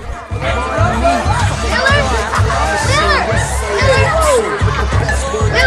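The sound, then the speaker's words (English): A dense crowd of partygoers downstairs at a party chatters and shouts over one another, many overlapping voices rising and falling in a loud, continuous babble with occasional higher excited calls. “The small child pushes through the crowd of partygoers downstairs.”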